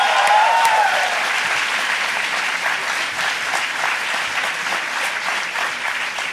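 Steady, dense applause from a sizable audience fills the whole stretch, loud and close, with a brief faint whistle at the start and no talking over it.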